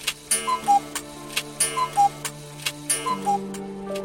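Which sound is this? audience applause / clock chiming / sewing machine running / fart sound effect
clock chiming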